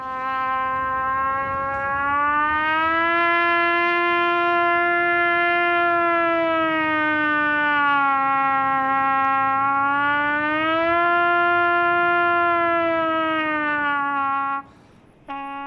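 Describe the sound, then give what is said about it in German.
A single long, sustained trumpet tone wails steadily, rising and falling slowly in pitch like a siren, loud and unbroken for about fifteen seconds before a brief break near the end; played by a trumpeter in Berlin at 17:00 on 1 August as an acoustic bridge to Warsaw. “Während am 1. August in Polen immer um 17 Uhr die Glocken läuten, ertönte zeitgleich in Berlin ein Trompetenton.”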